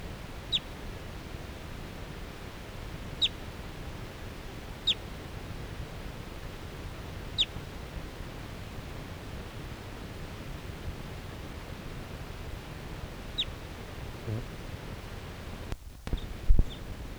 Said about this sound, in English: A wild bird again. And I'm gonna try to get a shot at it. This is the same bird that was tooping before.